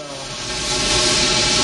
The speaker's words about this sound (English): As Bennett cocks the Uzi, John rips a pipe off the wall and throws it, spearing Bennett into a boiler behind him. As Bennett dies, steam spews through his body and out of the pipe.